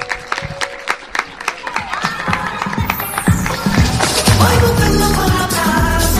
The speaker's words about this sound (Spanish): Bueno, un aplauso.